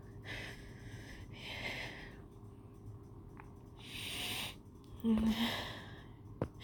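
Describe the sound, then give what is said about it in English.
Four or five sharp, breathy gasps come in short airy bursts a second or so apart, the later ones louder, one with a brief voiced catch, over a low steady hum. “Though I do hear a few shocked gasps, too.”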